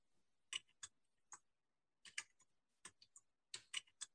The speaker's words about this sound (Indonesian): Suara typing keyboard sih. Yes, benar.